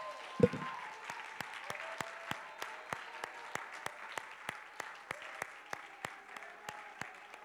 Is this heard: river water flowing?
no